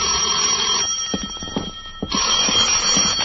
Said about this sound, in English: At 10, my phone rang.